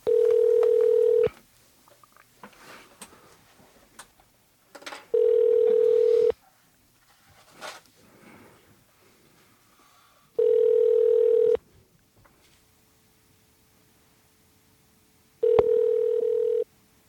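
A phone line ringing back on a call to NPR to reach Gene Demby in a voice booth: four steady, buzzy tones about a second long, spaced by several seconds of near silence with faint clicks and handling noise between them. No one speaks.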